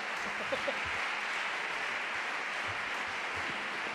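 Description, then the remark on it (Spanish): A crowd claps steadily for the full four seconds for a performer about to play a flute made from a camping chair, a dense, even wash of many hands with a faint murmur of voices underneath. “¡Un aplauso, por favor, que me juego la vida!”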